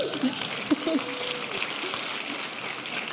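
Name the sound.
audience applause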